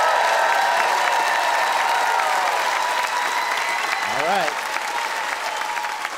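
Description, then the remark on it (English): A large audience claps steadily for several seconds, voting by applause for the winner of a debate about coins versus bills. It is a dense, even wash of applause that stays loud throughout, with a brief vocal whoop rising partway through. “Audience, it is up to you to decide who wins this weighty debate. By applause, who spare changed their minds about coins after they heard Deanne Smith?”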